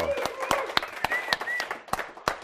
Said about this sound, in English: The applause is for Gene Tinder for the great editing work. Wow, way to go.